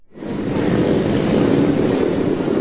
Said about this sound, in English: The sound of the annual Rolling Thunder motorcycle ride to honor military veterans, including those held captive or missing in action, drew tens of thousands of people to the nation's capital today. This was the 21st annual Rolling Thunder event.